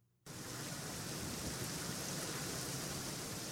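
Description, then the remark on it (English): After a brief silence, a heavy Arizona monsoon thunderstorm downpour starts abruptly and roars steadily and loudly, a dense hiss of rain with a low rumbling undertone. No voices. “You can feel when a monsoon storm is coming.”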